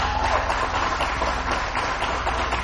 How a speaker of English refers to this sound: But this is your graduating class of 2020 and their dads. So let's give them one round of applause.